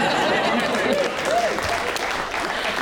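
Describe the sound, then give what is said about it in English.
Steady audience applause, a dense crackle of many hands clapping at a constant level throughout, with a few brief voices rising faintly within it. “Don't applaud me, that feels very piteous.”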